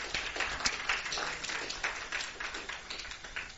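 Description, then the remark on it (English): An audience applauds the dads for a few seconds, a dense, steady wash of many hands clapping with no voices over it, holding at a moderate level throughout. “Give all the dads a hand clap.”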